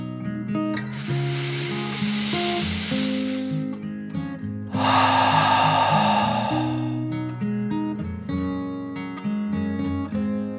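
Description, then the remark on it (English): A slow, deep breath drawn in and then let out, two long airy whooshes, fairly loud over a steady bed of gentle background music. “Harmony took another deep dragon breath, in and out.”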